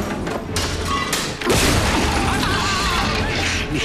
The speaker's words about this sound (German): Das Monster! Das Monster reißt die Tür ein!